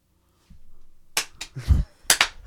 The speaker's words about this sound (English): Why is everybody like clapping?